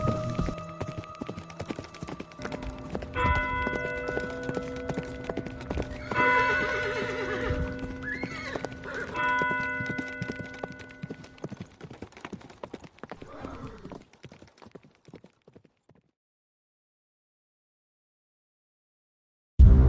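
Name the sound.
horse galloping away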